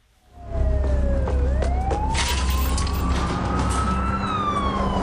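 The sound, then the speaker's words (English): A police car siren wails in a film clip, dipping in pitch and then climbing slowly, over a steady low rumble of traffic or engine noise. It holds fairly loud throughout rather than clearly fading, with no voices. “We are really brought back to the 1980s here with fluorescent lights and waning police sirens and a guy who looks like Buster Keaton.”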